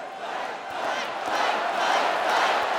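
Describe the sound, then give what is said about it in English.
A large crowd at the Fiserv Forum in Milwaukee chants "Fight" at Donald Trump's first public appearance after the assassination attempt, a dense, continuous wall of voices that swells slightly louder over a few seconds, with no single voice standing out. “The crowd chanted, "Fight," the same word Trump mouthed while being rushed off stage 3 days ago.”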